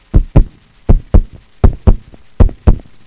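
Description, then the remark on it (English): Four pairs of solid knocks on a door in a steady knock-knock rhythm, loud, with quiet gaps between each pair and no voices. “If you let Him come into your life, He will come. He's knocking.”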